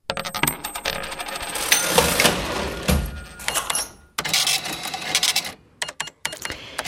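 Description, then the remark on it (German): A mechanical cash register clatters and rings open, with busy metallic clacks and jingling coins spilling through several bursts, fairly loud with no voices. “Naja, inzwischen hat die Registrierkasse fast schon ausgedient, die mechanische allemal im digitalen Zeitalter.”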